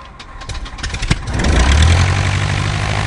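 A single-engine Cessna 150's piston engine, tail number November 704 Yankee Echo, starts up after the ignition is turned on: a few seconds of sputtering, clicking cranking, then it catches and settles into a loud, steady drone with no one speaking.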